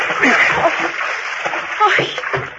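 Fairly loud splashing and sloshing of water as a woman climbs over the side down into it, a continuous churning wash lasting a couple of seconds with a few sharper splashes.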